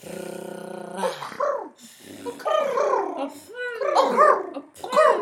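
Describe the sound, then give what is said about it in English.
Several voices attempt a rolled Spanish R trill, tongue placed on the roof of the mouth while blowing, producing buzzing, gargly rattles and sputters that rise and fall in pitch, overlapping one another in uneven bursts with a few short pauses. “Just put your tongue on the bridge of your mouth and just blow.”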